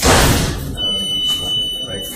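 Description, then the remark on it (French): A heavy metal prison door clanks shut with one loud impact, followed by a thin lingering metallic ring, echo and faint background murmur, in the young detainees' section of Bois d'Arcy prison, France. “Et toute la journée, il y a ce bruit, là, des portes qui font clic-clac.”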